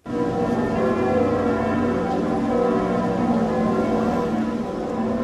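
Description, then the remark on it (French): Church bells of Saint-Sulpice in Paris ring out continuously at 18:50 in tribute at the hour the Notre-Dame fire began, several overlapping peals blending into a rich, sustained wash of tolling that stays loud and steady throughout, with no voices. “À l'heure exacte où a débuté l'incendie à Notre-Dame, vous entendez celle de Saint-Sulpice.”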